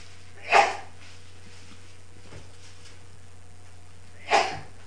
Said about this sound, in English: God bless you.